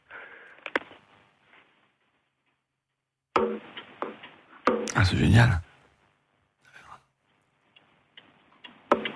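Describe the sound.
A pendulum clock, with its glass dome removed, ticks with a few sharp, crisp clicks of the pendulum spaced irregularly, mixed with short bursts of a person speaking and some handling noise in between, during an antique appraisal on France Bleu Normandie radio.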